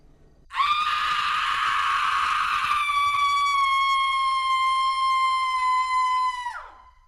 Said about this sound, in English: We hear the screams, and it sounds like a mountain lion, but something sounds really off about it.